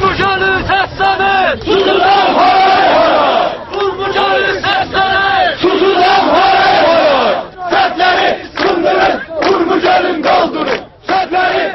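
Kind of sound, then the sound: crowd, crowd chanting protest slogans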